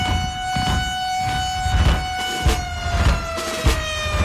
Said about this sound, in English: I remember little ones, too. Lackland's noon siren.